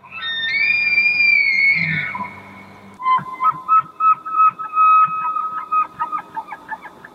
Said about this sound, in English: That apparently, if you're headed towards Rhineland or around the Shakwamanga Nicolet National Forest, watch out for elk. Yes, and hear for them as well. Not just look for them, but listen for them. Which I didn't realize that they sounded like this.